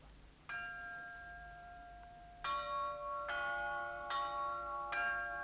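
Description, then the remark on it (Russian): Church bells ring out announcing the birth of a new person, in a slow, uneven sequence, each strike leaving a long shimmering tone that overlaps the next, heard clearly at moderate loudness over a faint low hum. “Колокола. Они оповещают небо о рождении нового человека на земле.”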